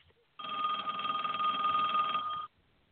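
telephone ringing

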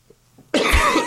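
cough

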